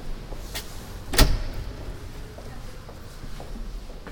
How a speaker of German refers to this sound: Drücke die Tür auf. Sie ist ein wenig schwer zu öffnen. Und trete in das Rathaus ein.